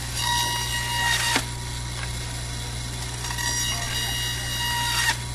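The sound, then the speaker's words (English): A Vitamix blender blends juice, running steadily at high speed, its motor whining over a dense, churning roar that surges briefly twice before settling back to a constant drone. No voices are heard. “The Vitamix helps to blend it up really well.”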